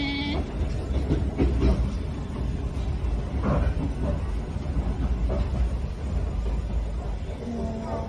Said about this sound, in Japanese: このね、つなぎレールのつなぎ目のとこをね、はい、台車が渡る音もね、ガタンコトンガタンコトンと、あと連結器の前の車両と後ろの車両はちょっとこの歪みがあるときに鉄板のする音もね、これも聞こえてくるんですね。これもいいですね。